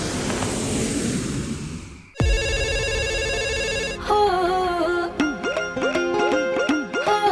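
A low rumbling hiss gives way to a loud electronic mobile ringtone: first a steady buzzing tone, then a bright warbling melody of repeated bending notes, close and clear with no voices.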